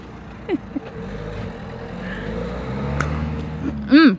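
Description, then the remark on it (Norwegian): A truck's engine rumbles steadily and grows a little louder as it approaches, ending with a sharp, high brake squeal as it stops at a new toll station. “Han stopper! Lastebilen stopper!”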